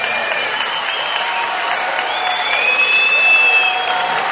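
A crowd applauds steadily and loudly throughout, a dense wash of clapping, with a shrill whistle cutting through near the end.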